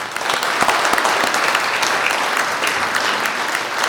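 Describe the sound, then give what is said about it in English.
A crowd claps steadily and loudly for about four seconds for those who took part in the Whatifity, dense overlapping handclaps forming a sustained wash of applause with no voices. “I think those who took part in the Whatifity deserve a big round of applause.”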